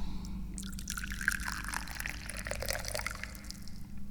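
Tea pours steadily into a cup, a continuous splashing gurgle whose pitch gradually rises as the cup fills, over a faint low background hum, with no voices.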